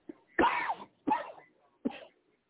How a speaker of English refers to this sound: I can hear you coughing. That ain't me, man. Oh, that is me, bro.